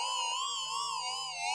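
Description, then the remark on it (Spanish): A loud electronic alarm blares in one continuous, high tone that wavers slightly in pitch, sounding alone for its whole short duration with no voices. “Claro, y cuanto más comprometido es el lugar, más grave es el sonido de la alarma.”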